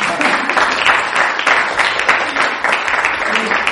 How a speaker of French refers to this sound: Oh, ça mérite des applaudissements, ça.